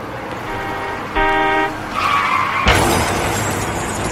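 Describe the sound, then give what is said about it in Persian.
A single loud car horn blast lasting about half a second rises over steady road noise, followed by a screech of skidding tires and a sudden crashing impact. “یه صدا میاد این بوق مسخره.”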